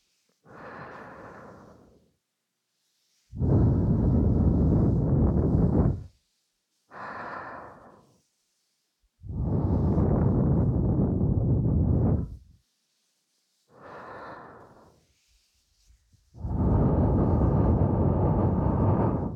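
Slow, warm breaths blown right up close to the ear: three long, airy, loud exhales, each preceded by a softer, shorter inhale, with brief silences between and no talking.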